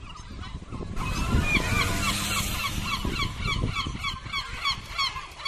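A flock of seagulls squawks and cries continuously while feasting at garbage containers full of accumulated rubbish on Calle Parque in the morning, several birds calling over one another in loud, overlapping bursts, with a low background rumble and no voices.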